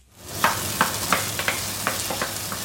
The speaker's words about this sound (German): Hähnchenfleisch brutzelt in der kleinen Küche des Hotels für den asiatischen Mango-Chicken-Salat